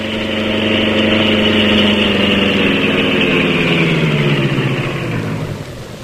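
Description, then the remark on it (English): A sleek black car's engine idles with a loud, steady low rumble as it is guided into a court outside a study, its pitch easing down slightly as it winds toward the end. No one speaks. “he guided the sleek black beauty to the court outside Conway's study”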